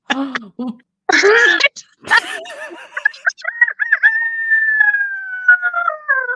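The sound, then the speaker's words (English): A person imitates a rooster's crow: a few choppy vocal bursts, then a long, sustained, wavering crow that holds its pitch before trailing off, loud and fairly convincing. “Well, animals I can totally do. People, not so much. Okay. So here's my rooster.”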